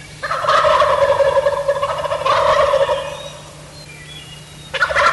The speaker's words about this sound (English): This is New York, roosted turkeys on the roost. Yes, boys and girls, I call the turkeys on the roost.